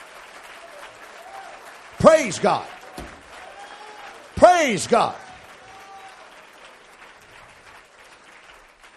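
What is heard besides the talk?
audience clapping hands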